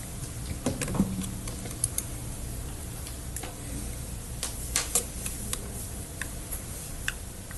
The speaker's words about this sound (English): I was just using that arrow key on the keyboard.